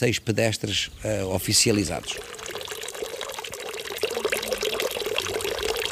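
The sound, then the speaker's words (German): Spring water bubbles and gurgles up steadily from the ground in Querenza in the Algarve, along the Via Algarviana hiking trail, continuous for about four seconds, following a couple of seconds of someone speaking. “Überall in und um Querenza sprudelt Quellwasser aus dem Boden.”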